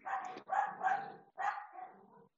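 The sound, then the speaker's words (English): Several dogs bark in quick, overlapping bursts, loud, with short yips blending together over about two seconds and no talking. “Here come the dogs.”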